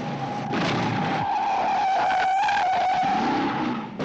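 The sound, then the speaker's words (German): Tires screech in a sustained, high-pitched squeal over a roaring car engine, the skid wavering in pitch for several seconds during the ten-minute car chase of the 1968 action film Bullitt, starring Steve McQueen and directed by Peter Yates, with no one talking. “Die von Regisseur Peter Yates inszenierte Verfolgungsjagd von 10 Minuten Länge gilt als wegweisend und in unserem Falle sehr lehrreich.”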